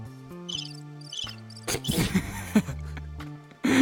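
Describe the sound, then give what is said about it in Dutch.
Two short bursts of cricket chirping ring out high and thin over a low droning tone, followed by louder clattering, rustling noise toward the end. “Die krekel die is zo vaak teruggekomen.”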